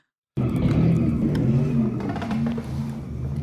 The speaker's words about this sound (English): This happened about 7 o'clock Saturday night right at 3rd and Clay Street. You can see dozens of people with phones out as cars did those donuts in the middle of the street, sending up huge clouds of smoke there as drivers burn rubber.